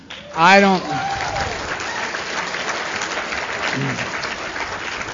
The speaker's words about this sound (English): You understand, you're clapping for you.